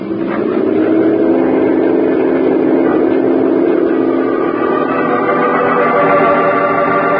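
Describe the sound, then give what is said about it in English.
A motorboat engine on a river roars steadily at full speed, a loud, continuous droning hum with a slight rising whine, with no voices over it. “Radio the other boats to fan out. Throw their spotlights on the river and on both banks. We'll take the center of the fan. Okay, full speed.”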